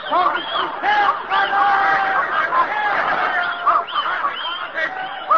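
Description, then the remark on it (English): A frantic din of many dogs barking and yelping at once, overlapping high-pitched calls that run without a break, mixed with shouting from an agitated crowd at a political meeting as the dogs go at the people. “dogs, huh? Listen to that, dogs!”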